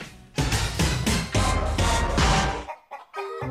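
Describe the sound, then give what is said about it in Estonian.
Hens cluck busily in a loud burst of overlapping calls, a dense flock sound that cuts off, followed by a few fainter, tonal clucks. “Kehtna mõisa OÜ müüb aasta munenud kanu.”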